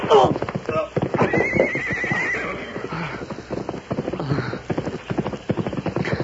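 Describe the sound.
A horse neighs loudly and whinnies over steady clip-clopping hooves as a rider comes riding up, with a man's voice talking through the sounds.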